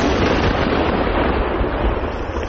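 A controlled detonation of found mines and shells at a special range. A heavy, sustained roar fills the whole stretch, a dense rumbling blast wash that barely fades toward the end. No voices, just the loud explosive rumble.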